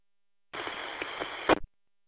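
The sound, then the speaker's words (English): A radio channel opens into roughly a second of steady, hissy open-carrier noise with no voice on it, then cuts off with a brief squelch crackle. A calling station keyed its transmitter without transmitting speech. “Last calling station, you were keying but not transmitting, so I'll just continue on.”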